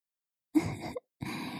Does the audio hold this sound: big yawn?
yes